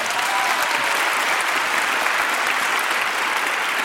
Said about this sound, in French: Ah oui, on peut les applaudir déjà.